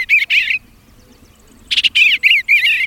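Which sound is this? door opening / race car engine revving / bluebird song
bluebird song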